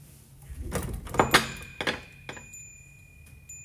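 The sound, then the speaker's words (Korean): A bookshop door opens with a few clunks and rattles, and a bright, high bell chime rings out and lingers steadily to the end while the door settles with another knock. “책방 문 열리는 소리 들으면서 마무리하겠습니다”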